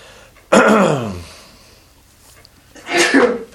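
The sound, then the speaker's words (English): A loud, sudden sneeze with a voiced, falling "achoo" tail, then after a short quiet pause a second, slightly softer sneeze. “God bless you.”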